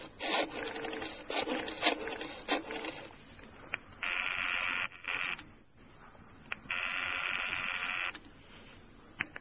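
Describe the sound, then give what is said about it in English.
A telephone being dialed: bursts of mechanical clicking and ratcheting, then two longer, steady whirring stretches as the dial spins back, with no voices. “I asked if I could use his phone.”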